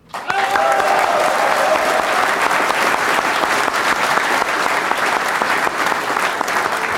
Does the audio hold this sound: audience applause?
yes